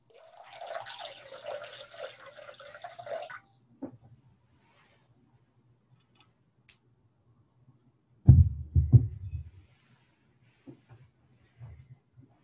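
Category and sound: household object, water poured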